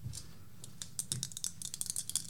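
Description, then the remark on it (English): Dice clatter and tumble in a quick, irregular run of sharp little clicks, fairly quiet, with no voices over them. “Gotta get some of that good dice rolling noise.”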